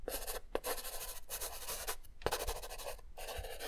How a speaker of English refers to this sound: I always like to draw little things with my colorful markers.